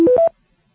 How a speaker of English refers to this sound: The touch tone code for the word police is star 968.